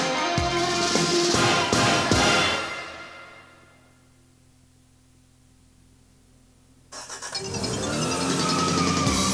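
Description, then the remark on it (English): The engine of a new Toyota XES car, a 16-valve, 2-liter gas-free nuclear fission engine, runs loudly with a broad roar, drops away to a low idle-like hum for several seconds, then surges back up to full volume. No one speaks. “The new Toyota XES with a 16-valve, 2-liter gas-free nuclear fission engine.”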